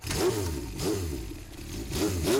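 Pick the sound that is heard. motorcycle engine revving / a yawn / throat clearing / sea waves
motorcycle engine revving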